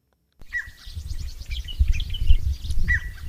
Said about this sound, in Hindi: चिड़ियों की खुसर फुसर और नवंबर की खुनक, हवा में सरसराती नीम की डालियां